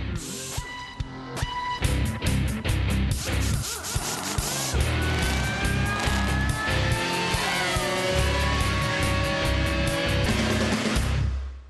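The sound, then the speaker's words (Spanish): Loud Formula 1 theme music: punchy percussive hits open it, then roaring race-car engine sweeps and rising whines drive continuously to the end, with no voices. “vamos a darle ahí a Rich Pérez López 10 segunditos que nos encuentre la música de Fórmula 1”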